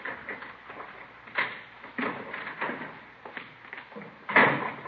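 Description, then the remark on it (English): A kitchen door at the back is worked open at 1:45 a.m. with a series of rattles and clunks from the handle and frame, ending in a louder knock near the end. No one speaks. “Somebody's coming around back there. Yeah. Kitchen door.”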